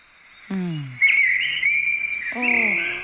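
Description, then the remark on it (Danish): A Eurasian blackbird in Frederiksberg sings a bright, sustained warbling whistle for a couple of seconds, clear, while a person makes low, drawn-out vocal sounds just before and near the end. “Og jeg elsker, er det en solsort, der ser sådan? Det er den mest aggressive solsort overhovedet på hele Frederiksberg.”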